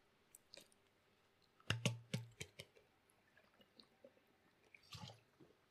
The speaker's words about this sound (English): Sorry, I need some water here.